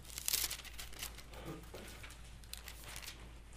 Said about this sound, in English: Turn over to Matthew chapter 5. We're going to look at verses 14 through 16. I can get my pages turned to the right place.